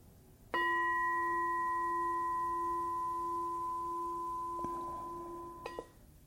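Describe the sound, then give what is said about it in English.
A bell is struck once and rings on in a long, steady, pure tone with layered overtones, fading only slightly before a few soft knocks near the end. No one speaks. “No, if we listen to the bell, okay, listen closely.”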